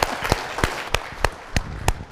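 Audience applause: a steady wash of many hands clapping, with sharp, loud claps standing out at a regular beat of roughly three per second, and no voices.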